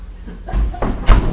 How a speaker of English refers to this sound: Is the door unlocked? It's not. Do you want to unlock?